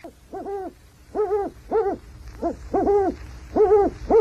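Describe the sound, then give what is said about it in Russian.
An eagle owl hoots again and again, about eight clear, rising-and-falling calls in a steady, fairly quick rhythm, loud with no talking. “Филин, а Филин, это ты ухаешь?”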